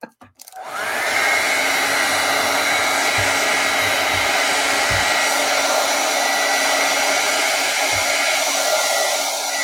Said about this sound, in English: All right, here comes the blow dryer.